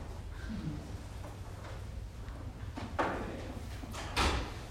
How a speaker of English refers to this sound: We'll go ahead and shut this door for some privacy.